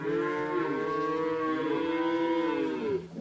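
calves mooing

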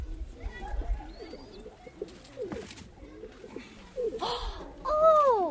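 pigeons cooing

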